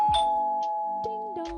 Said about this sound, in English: Just then, I heard the doorbell.